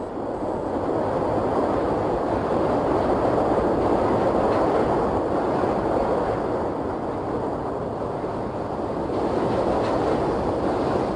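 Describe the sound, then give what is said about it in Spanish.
A train rolls past on an urban rail line running along a single axis with an urban motorway and metro lines, a steady, loud rumble with a broad roar that holds for the whole stretch, faint rattling underneath and no voices. “consiguiendo que incluso nos resulte fascinante la vista de la autopista urbana y de las líneas de tren y metro, que discurren a lo largo de un único eje, independiente de los recorridos peatonales y del tráfico local.”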